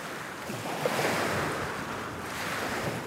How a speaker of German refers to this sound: Möglicherweise das Abendrot mit Meeresbrandung an einem fernen Strand.